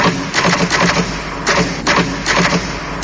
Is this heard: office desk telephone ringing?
no